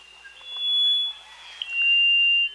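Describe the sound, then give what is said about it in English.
A rufous-throated solitaire singing in dense mountain forest in the Blue Mountains of Jamaica: two long, steady, pure whistled notes at a high pitch, separated by a short pause, over a faint hiss of background sound. “There, instead, you might hear a rufous-throated solitaire singing in the dense mountain forest.”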